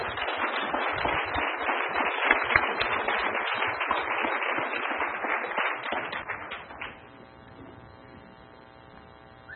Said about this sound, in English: And we have some local success stories here in the room that have been invited to come up on stage and share some of their success stories. So please give them a round of applause as we welcome them in the front of the room.